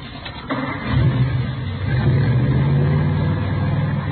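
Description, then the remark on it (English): A modified car engine with Mallory ignition, milled heads and twin Wakefields, about 120 horsepower, cranks and catches, then settles into a loud, rumbling idle with a couple of revs, its deep throaty growl steady and continuous with no talking over it. “Here, let me start it up for you.”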